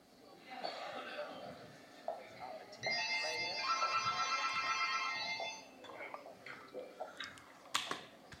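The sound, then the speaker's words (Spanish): A telephone rings once in a single steady, bright electronic trill lasting about three seconds, with faint voices and small clicks before and after it, as a call is placed to a hotel in Lima, Peru. “El señor Reyes llama por teléfono al Hotel Buenavista en Lima, Perú.”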